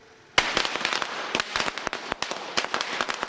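A rapid, irregular string of sharp firecracker bangs crackles loudly, starting abruptly and continuing without a pause, with no voices, as evicted residents in Shanghai set off a fireworks display in celebration.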